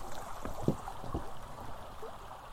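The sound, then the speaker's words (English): A creek flows steadily with a continuous, moderately loud rushing and burbling, broken by a few brief low thumps or splashes. No one speaks. “That's running pretty heartily there.”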